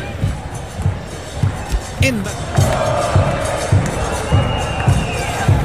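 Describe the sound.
A stadium crowd at a football match between Provincial Osorno and Deportes Lota Schwager applauds an Argentine player's long-range shot from 23 metres that went wide for a goal kick, with a broad, steady roar of clapping and cheering, punctuated by regular low thumps roughly every half second, while a voice speaks faintly over the noise.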